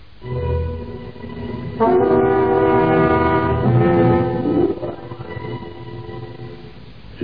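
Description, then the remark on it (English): A train rumbles along the tracks, then a long, loud horn blast sounds for about three seconds before fading back into the steady mechanical rumble. No one speaks. “So who was it that stopped the train?”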